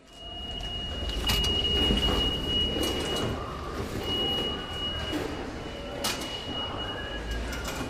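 Subway station ambience with a train rumbling, a steady high whine, and a few sharp clunks like train doors sliding and knocking shut, all without talk.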